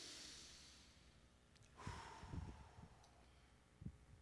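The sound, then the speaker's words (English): An audience takes a deep cleansing breath together: a soft, airy rush of many people breathing in and out, a broad hiss swelling and fading over a couple of seconds, with a few low rustles and thumps. “I don't know if all this talk about the Holy Spirit leaves you a bit breathless or afraid, but I'm going to invite you all to take a deep cleansing breath right now.”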